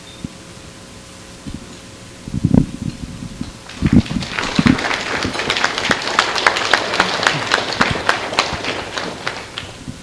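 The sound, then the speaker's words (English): An audience at a Baylog event breaks into applause as a presenter comes up to speak: a few scattered claps at first, then many hands clapping together in a dense, steady patter that carries on to the end. “I wasn't expecting the clap.”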